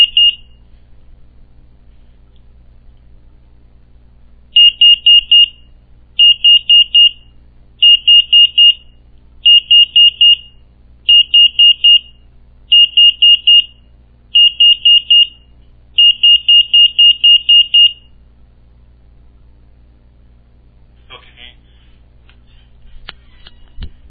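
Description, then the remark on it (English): A home security alarm sounds its arming countdown during the exit delay, with a door left open: loud, high electronic beeps in regular short bursts, repeating about every second and a half over a low steady hum, then falling silent. “So we'll see what happens when the alarm actually arms itself and what it does to that open door if you left it open.”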